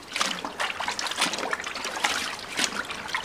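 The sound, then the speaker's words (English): Steady splashing and trickling water as a goat skin is scrubbed and washed thoroughly in water to remove lime from it, with repeated bursts of louder splatter and no voices. “The skin is then put in water and washed thoroughly.”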